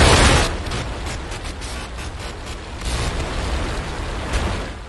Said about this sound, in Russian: Это я вообще первый раз увидел. Сейчас уже взлетает ракетоноситель. И просто в воздухе видно.